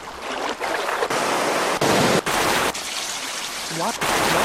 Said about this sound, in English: Select an ambience. And we want that waterfall noise. Let's see here. Rumble 4. Rumble. Boom. Let's see, where's that waterfall noise?